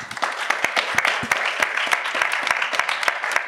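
A crowd applauds steadily, many hands clapping in a dense, continuous patter with sharper individual claps popping out, sustained at a moderate level throughout.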